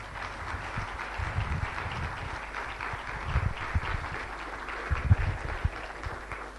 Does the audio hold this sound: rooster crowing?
no